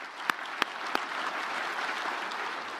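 A crowd applauds steadily, a dense wash of many hands clapping, with a few sharper, louder claps standing out at the start before it settles into even, sustained applause.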